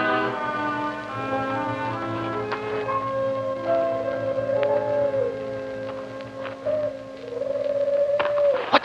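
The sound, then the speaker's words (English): Eerie moaning wind blowing in a graveyard, howling in long, wavering tones, gliding up and down over a steady low drone, sustained throughout with no voices. “Just the wind.”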